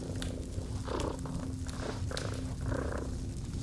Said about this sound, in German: Und du hörst das beruhigende Schnurren des kleinen Drachen an deiner Seite.